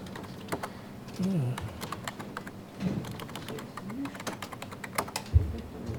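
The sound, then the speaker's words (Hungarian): Rapid, irregular clicking of keys on a computer keyboard, fairly clear, running throughout with brief pauses, while soft low murmurs drift in the background. “Akkor én ezt kimásolom előre, hogy ne kelljen olyan sokat gépelni.”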